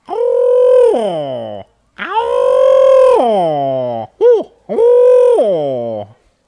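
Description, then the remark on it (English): A screech owl gives four loud, harmonic calls, each holding a steady wavering pitch before sliding downward. The third call is a brief rising-falling note, and short silences separate the calls. “He's if you hear this kind of a sound late at night, it's kind of scary to wake up to the sound of a screech owl.”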